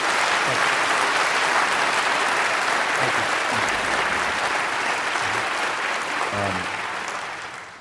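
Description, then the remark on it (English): Sustained audience applause for a band, a dense, steady wash of clapping that holds strong for several seconds before beginning to taper off at the end. “First of all, another round of applause for the ….”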